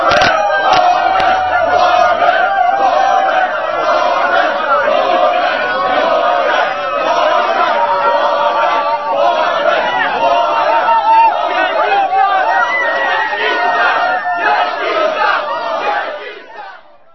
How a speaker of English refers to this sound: This is these are Scott Brown's staffers at a rally, doing the tomahawk chop and making Indian hooting noises.